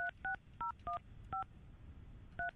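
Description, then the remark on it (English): A phone keypad dials a number to conference in a call to a boarding school in Connecticut: six short dual-pitched beeps in an uneven rhythm, the last one after a longer pause, over a low background rumble with no talking. “I'm conferencing Julian right now.”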